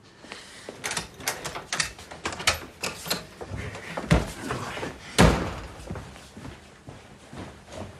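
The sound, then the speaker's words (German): A door is rattled and banged repeatedly, with a flurry of sharp knocks building to two heavy, loud slams near the end, and no one speaking. “Mach diese Scheiße auf, diese Tür, diese Scheißtür! Mach sie auf.”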